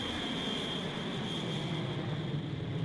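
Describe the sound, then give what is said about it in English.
A steady, roaring airplane engine with a high, thin whine riding on top, holding at a constant level throughout without voices, as Brunhilde's plane takes off. “Running to the platform that had brought her down to the cavern, they board her invisible plane, and the platform rises to the surface just in time for them to see Brunhilde's plane take off.”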